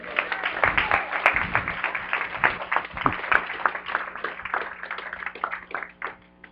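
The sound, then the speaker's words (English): An audience applauds together to give praise and thanks to God, a dense, steady wash of many hands clapping at once at a moderate level for several seconds before tapering slightly. “You know, one of the ways that we show His praise is we applaud, we give thanks. Let's do that.”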